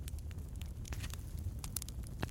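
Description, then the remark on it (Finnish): A campfire crackles steadily over a low rumbling base, with scattered sharp pops and snaps at irregular intervals, at a soft, even level. “Kuulet tämän tulen rauhoittavan rätinän äänen.”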